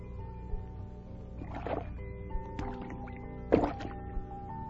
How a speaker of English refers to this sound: He's jumped into the water. He's diving down, down.